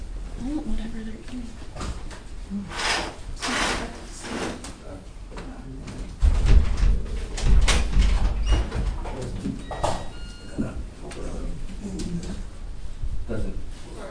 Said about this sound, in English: Thanks. Yeah. Here. And we can open the window.